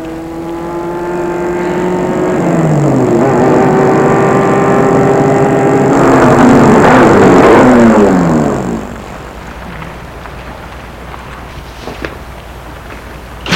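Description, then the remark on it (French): A black car's engine revs and grows louder as it approaches along a small street, driving toward a woman, its pitch rising and sweeping, then the roar cuts off abruptly, leaving a quiet background hum with a faint click near the end. “Tout à coup, Une voiture va vers elle, une voiture noire.”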